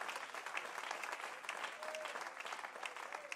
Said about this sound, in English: Oh, would you clap your hands unto the Lord and give him praise?